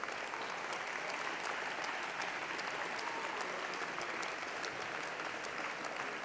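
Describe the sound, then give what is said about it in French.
An audience at the Utopiales festival applauds the festival's volunteers and participants steadily, a dense wash of many hands clapping at an even, sustained level throughout, with no speech over it. “Et je crois que tous ces acteurs, il faut les applaudir pour pouvoir, encore une fois, continuer ensemble.”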